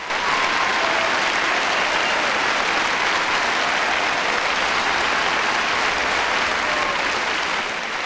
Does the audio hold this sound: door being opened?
no